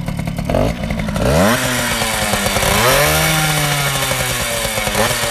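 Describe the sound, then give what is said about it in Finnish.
A small tuned two-stroke moped engine, kick-started, runs loud, its buzzing pitch climbing sharply as it revs up twice, then holding a high, raspy whine with no voices. “On se viritetty. Kuuleeko sä äänestä, että onko se viritetty?”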